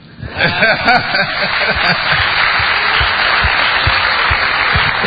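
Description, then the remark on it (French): Sustained applause from an audience for the minister, a dense steady wash of clapping that swells quickly after a brief quiet start and holds at a loud, even level throughout. “Il faut effectivement applaudir monsieur le ministre et saluer les efforts que fait monsieur le ministre à la tête de son département ministériel.”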